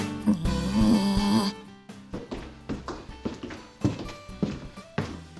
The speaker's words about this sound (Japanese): で、足音？